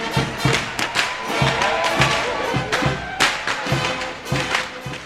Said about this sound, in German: Der Überlinger Narrenmarsch hallt durch die Straßen und Gassen und das dutzendfache Knallen der peitschenähnlichen Karbatschen.